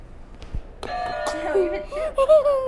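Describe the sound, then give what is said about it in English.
A game buzzer is pressed, setting off a bright electronic chime with a sustained harmonic tone, struck again a moment later, while a voice talks over the ringing. “You can go hit another buzzer.”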